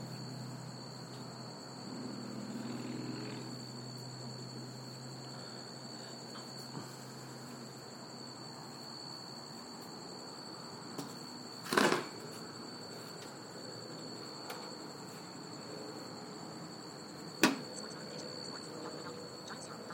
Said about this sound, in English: The other crickets are going, but they're not like this. Where the bird are you? And of course, it's one of those things that can deceive you with its voice. It's not the other little jigga jigga jigga jigga jigga jigga crickets. It's a solid sound.